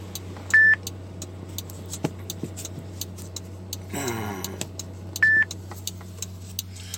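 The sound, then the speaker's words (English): An electronic timer gives two short, clear high beeps several seconds apart, sounding over a steady low engine hum with faint regular ticking and a brief rustle in between. “beep is a magical little timer, but I've got set up”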